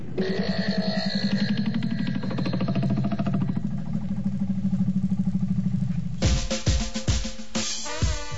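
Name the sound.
tractor engine running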